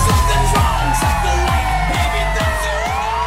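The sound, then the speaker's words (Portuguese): A loud crowd cheers and whoops over wailing sirens, with steady, rhythmic booming thumps about twice a second driving underneath the whole time. “Chega, obrigado pelos aplausos.”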